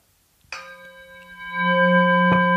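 A gong is struck once, sharply, and rings on with a shimmering sustained tone whose deep hum swells louder; a second light tap lands near the end. No voices.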